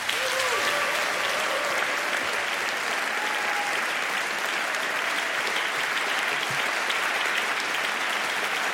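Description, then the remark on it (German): A sustained burst of audience applause for the performer Uta Köbernick as she is introduced, dense and steady clapping from many hands holding at an even, loud level for the whole stretch, with a faint whistle or cheer briefly rising early on. “Klatschen Sie jetzt für die fantastische Uta Köbernick!”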